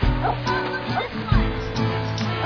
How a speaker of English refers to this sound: Puppies!